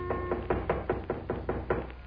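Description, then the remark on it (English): Rapid, evenly spaced knocking on a cabin door at about 11 o'clock at night, about ten sharp raps at a steady brisk rhythm, moderately loud with no voices. “It was about 11 o'clock, and we'd started to go to bed, intending to get up as early as possible the next morning when there was a knock on the door.”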